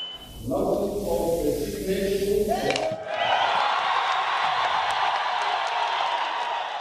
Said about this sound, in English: So cheers in Parliament, cheers out here on the streets as soon as the news filtered out to people here in Harare.